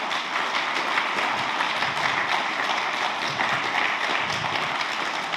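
A crowd applauds steadily for several seconds, a dense, even wash of many hands clapping at once with no voices rising above it.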